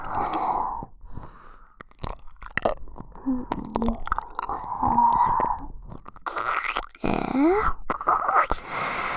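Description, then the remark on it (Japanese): Wet, smacking ear-licking sounds that keep going with soft slurps, clicks and breathy moans, loud and unbroken for the whole stretch, with no talking. “お耳ペロペロで欲張しちゃう。”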